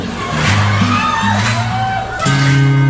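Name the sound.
audience clapping and whooping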